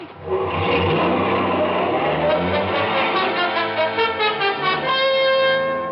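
A car engine roars loudly and steadily as the car takes off out of a parking lot behind a line of parked cars, its revving tone holding for several seconds with slight pulsing toward the end, as though accelerating away. No voices are heard.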